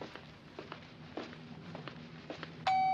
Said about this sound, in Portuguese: A taxista desce e toca a campainha.